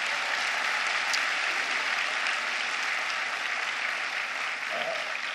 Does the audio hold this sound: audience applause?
yes